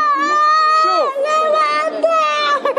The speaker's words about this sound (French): Dans le couloir, un monsieur, debout, portait sa fille entre ses bras, pleine de sang. Sa fille est blessée au niveau de la tête. Aucune prise en charge. La fille pleure, son papa en colère.